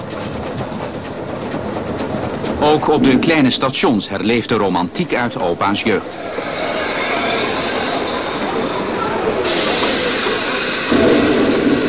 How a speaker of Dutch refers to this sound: Hij kan 130 km per uur, maar in Nederland mag hij niet harder dan 35. 8 ton kolen en 31.000 liter water neemt de locomotief mee als hij als Veluwse stoomtrein aan de rit gaat tussen Apeldoorn en Dieren. Een prachtige rit.